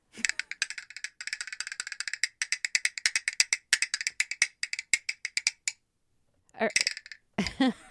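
Cow bones in one hand and wood bones in the other clacked together as percussion: quick, crisp, rattling clicks in steady rhythmic rolls for about six seconds, then a pause and a couple of brief voice sounds.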